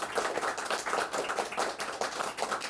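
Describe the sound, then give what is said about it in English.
An audience claps steadily to welcome a guest, many hands overlapping into a dense, continuous patter of sharp slaps at an even moderate loudness, with no voices over it. “Let's all give a great hand clap and welcome”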